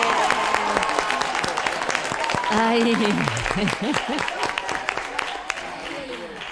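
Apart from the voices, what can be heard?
enthusiastic applause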